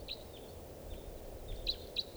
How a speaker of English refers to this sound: Wild bird coming in again, 6:32 p.m. Sounds like a type 2 step.